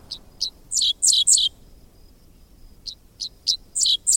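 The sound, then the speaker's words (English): A dickcissel on a fence line along a country road in Kansas on a summer morning sings two clear phrases of sharp, buzzy chirps, each starting with a few short notes and rising into quicker stuttering ones, separated by a brief quiet pause. “Half insect, half sci-fi blaster, this song belongs to a bird called the dickcissel, whose name spells out the syllables of its quirky song.”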